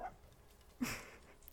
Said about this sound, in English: And look at that. My dog's joining.